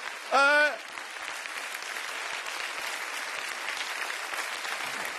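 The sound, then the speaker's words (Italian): An audience applauds steadily for about five seconds, a dense, even patter of clapping, opened by a brief loud whoop or cheer from one voice. “Fate un applauso, se volete farlo, fatelo!”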